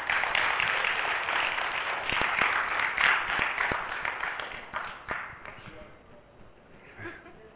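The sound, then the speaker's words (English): An audience claps and applauds to welcome an interviewee, a dense, steady crackle of many hands with a few sharper individual claps, holding strong for several seconds before thinning out and fading toward the end. “We'll have a round of applause”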